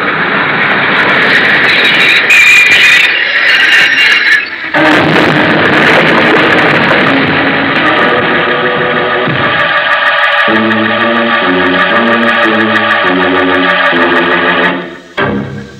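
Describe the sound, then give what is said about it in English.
A loud, rumbling train pulls into a station with a steady roar and hissing, then a rhythmic pattern of pulsing tones takes over near the end before it cuts off abruptly. “See? The train's come in.”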